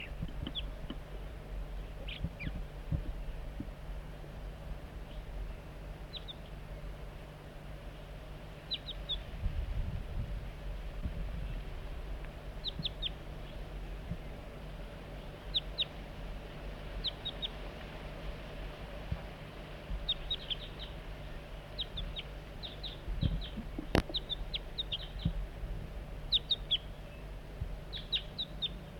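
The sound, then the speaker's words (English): A perched juvenile crossbill gives short, high chip calls again and again in small bursts of two or three notes, faint over a steady low rumble and hiss. “Start recording juvenile.”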